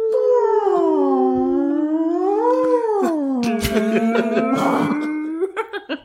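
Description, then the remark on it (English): A person imitates whale song with one long, unbroken moaning wail that glides slowly up and down in pitch. The voice is steady, breaking into a few short breathy bursts at the end. “Do you want me to make some whale noises in the background?”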